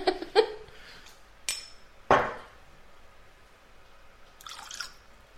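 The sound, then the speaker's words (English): A few small drops of water plink into a glass of whisky, sharp taps spaced over several seconds, followed by a soft faint trickle near the end. “Right, that's the drop of water going in.”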